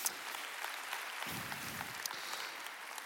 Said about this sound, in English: Come on, clap it up, y'all. Clap it up.